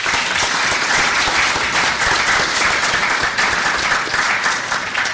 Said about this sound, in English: A round of applause to welcome